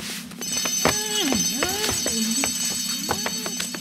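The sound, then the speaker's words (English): A loud alarm bell rings continuously with a high, steady metallic tone, while warbling, swooping electronic tones and sharp clicks sound over it throughout. No one speaks. “At that moment, there was a ringing noise. "It's the alarm," said Dan.”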